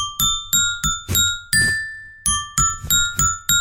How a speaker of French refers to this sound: On va jouer évidemment ce matin avec Antoine et son xylophone. Ce matin, à vous de retrouver une publicité.